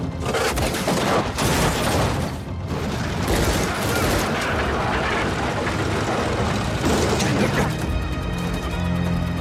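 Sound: gunfire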